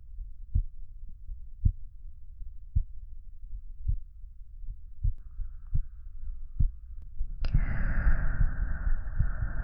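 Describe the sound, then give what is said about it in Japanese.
A muffled heartbeat thumps in a steady low rhythm, about a dozen beats, then a brighter rustling hiss rises near the end and continues over the beats. “私の心音、聞こえる？”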